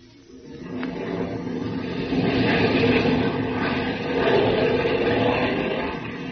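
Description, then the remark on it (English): A steady, rumbling airplane engine drone fills the scene, a continuous low roar that swells slightly and holds without pause, with no voices. The plane is in flight in the hour before dawn with one of its motors out of action, within sight of its Great Plains home base. “One of the motors, as well as the radio sending equipment, were put out of action in the attack.”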